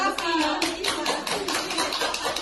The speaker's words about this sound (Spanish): Con estos aplausos han recibido en el convento de las Agustinas Recoletas de Somión la elección del cardenal Prevost como obispo de Roma.